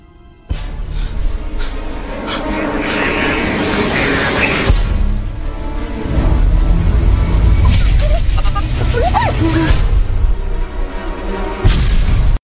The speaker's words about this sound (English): There's a lot of, like, explosions and beeps and music going on. So that's the official Star Wars teaser.